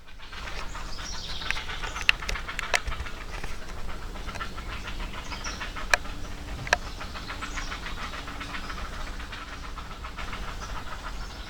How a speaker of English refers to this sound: Oh. Squawkiness. heron conversation time.